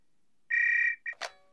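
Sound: telephone ringing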